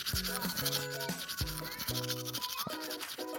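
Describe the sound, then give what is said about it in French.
Steady, scratchy brushing, like a toothbrush scrubbing teeth, runs continuously, with a bright, plinking melody of short notes playing along underneath. “Donc attrape ta brosse à dents, ton dentifrice, et tu rentres jusqu'à ce que l'histoire soit terminée.”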